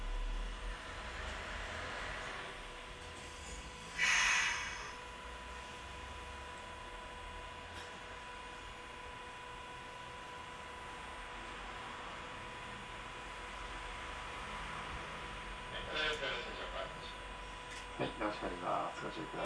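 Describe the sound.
Steady rumbling hum inside a moving streetcar in Kumamoto, Japan, bound for Kami-Kumamoto Station via Suizenji Park, with a constant whine, a brief metallic clatter early on, and a run of rattling bumps near the end; muffled voices come and go.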